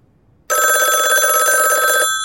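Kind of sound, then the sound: household object, telephone bell ringing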